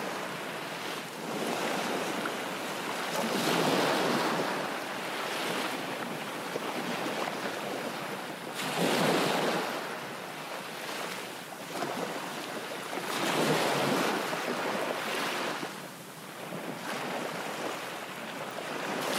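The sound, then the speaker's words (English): Ocean waves roll in and break on the shore in slow, regular surges, each wash of surf swelling and fading every few seconds, with a steady windy hiss underneath and no voices. “Keep breathing in the energy of the sea.”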